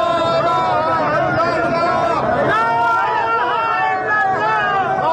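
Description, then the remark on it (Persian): A crowd of protesters in Shiraz, Iran shouts and wails together in loud, sustained, mournful cries during a symbolic funeral for empty dinner spreads, many people at once in a dense, continuous din with rising and falling tones. “در شیراز تظاهر کنندگان با تشییع نمادین سفره‌های خالی فریاد عزا سر دادند.”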